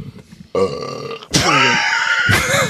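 A series of loud, croaky burps: a short rumbling one, then a longer, louder belch with a wavering pitch, and another starting right after. No talking is heard.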